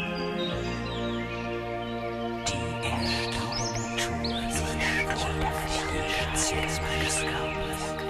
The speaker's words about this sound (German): Du nimmst jetzt wieder das Zwitschern der Vögel wahr und spürst die wärmenden Strahlen der Abendsonne.